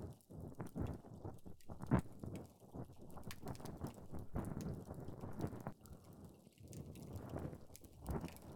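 Intimate scratching and scraping of an ear pick inside an ear, a steady stream of crackly rustles and soft irregular taps with no voices.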